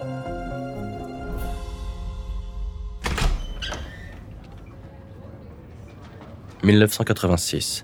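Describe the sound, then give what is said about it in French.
Soft music gives way to a young blonde woman opening the door of a social worker's office, a sharp latch click followed by a brief creak and thud, then a few louder clattering bursts near the end. “Une jeune femme blonde ouvre la porte du bureau de l'assistante sociale.”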